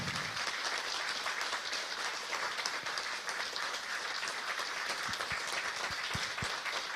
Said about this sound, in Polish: Podziękujmy jeszcze raz naszym wykonawcom gromkimi brawami. Teatr Muzyczny od Czapy.